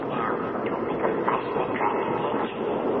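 A steady, loud rumble of a train rolling along the rails, with faint rhythmic clacks running through the continuous noise and no voices.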